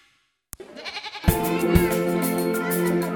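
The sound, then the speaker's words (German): Several goats, given as self-help aid in Ethiopia, bleat loudly, their wavering cries overlapping in a sustained chorus after a sharp knock and a brief lull. “Ziegen als Hilfe zur Selbsthilfe verschenkt AVC nicht nur wie hier in Äthiopien, sondern auch in Nigeria.”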